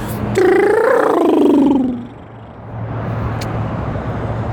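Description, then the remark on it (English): A voice makes a single drawn-out grunt that rises slightly then slides down in pitch, imitating a passing car with the Doppler effect, followed by a steady low traffic hum. “Can make grunt noises as they go by with the Doppler effect.”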